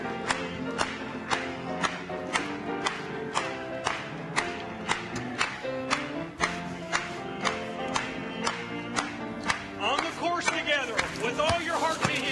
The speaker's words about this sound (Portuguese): Vamos bater palmas.